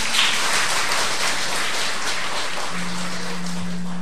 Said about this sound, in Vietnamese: Hay quá, cho một tràng pháo tay.